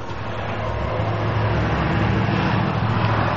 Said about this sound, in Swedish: Åker förbi en gul bil här.